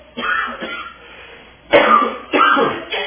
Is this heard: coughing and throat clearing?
yes